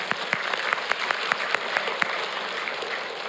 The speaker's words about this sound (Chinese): 感谢主，我们为他们鼓掌。